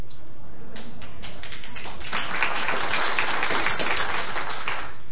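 A crowd applauds steadily, a dense crackle of many hands clapping at once that swells slightly midway and holds for about five seconds, with no voices over it.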